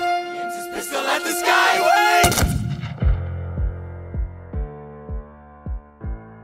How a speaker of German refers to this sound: Fast im selben Moment feuert Burr ab, die Pistole direkt auf seinen Widersacher gerichtet.